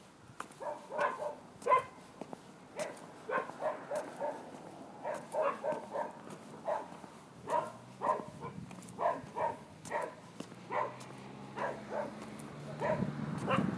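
two dogs barking

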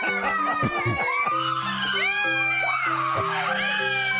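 children screaming

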